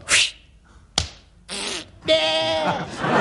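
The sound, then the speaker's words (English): A voice imitates a golf shot striking a sheep: two sharp smacking hits, then a wavering, nasal bleat that rises into a long, loud, shaky baa. “I'd like you to do my famous impression of a golfer hitting a sheep.”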